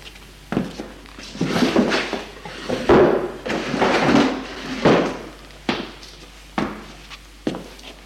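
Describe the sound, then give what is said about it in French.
A man shuts drawers: a series of wooden thuds and scraping slides as they are pushed shut one after another, with sharp knocks near the end and no voices. “Épuisé, il ferme les tiroirs et va s'asseoir en soupirant.”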